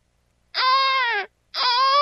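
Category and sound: human body sound, baby crying sound effect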